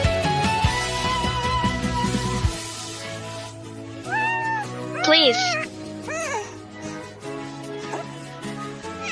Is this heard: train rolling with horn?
no